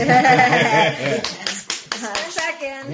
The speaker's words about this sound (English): you get a round of applause.